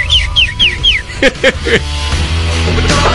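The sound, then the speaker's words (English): A person whistles a bird call: three quick rising-falling chirps, then a few lower warbling tweets, clear before fading into background murmur. “Give us the bird whistle.”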